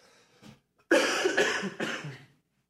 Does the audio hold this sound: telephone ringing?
no